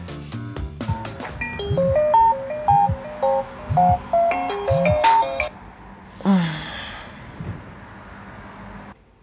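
alarm clock ringing

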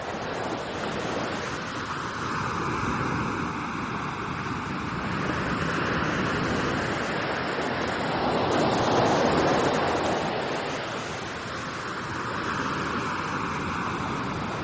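sea waves and wind

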